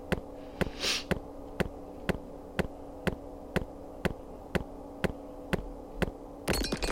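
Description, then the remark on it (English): A video game skeleton sound effect in a dodging game played with the arrow keys, where the player dodges opposite to the direction the skeleton is heard from: sharp, evenly spaced clicks roughly twice a second over a low steady hum, with a brief hiss early on and a noisy burst at the end. “So you always dodge in the opposite direction from which you hear the skeleton.”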